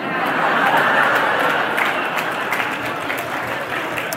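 A crowd breaks into steady, dense applause, many hands clapping at once in a continuous loud wash that holds level for several seconds with a slight easing toward the end.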